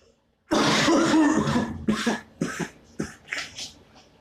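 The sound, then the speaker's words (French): A harsh, heavy cough bursts out after a brief silence, followed by a string of smaller hacking coughs and throat-clearing sounds in an uneven rhythm. “Et bon, mon petit père, vous avez attrapé une méchante toux.”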